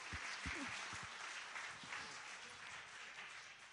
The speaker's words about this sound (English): We'll give you a little round of applause for that. Well done.